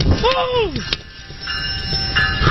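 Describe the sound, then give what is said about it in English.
A train rumbles loudly and steadily along the track toward a man standing on it, with a brief sliding horn-like tone near the start and thin metallic whines riding over the constant low roar. “Number one, a hero police officer running towards a guy who's standing on a train track and has no idea that the train's about to kill him.”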